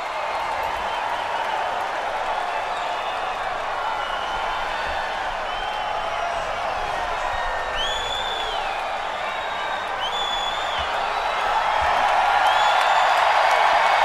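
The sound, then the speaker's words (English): A large wrestling crowd cheers and roars without letup for Ric Flair, with sharp whistles rising above the din now and then, and the noise swells even louder toward the end. “Crowd was so hot.”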